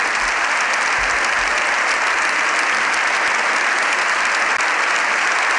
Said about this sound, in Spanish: Le han ovacionado mucho, más de 7 minutos de aplausos con todos en pie.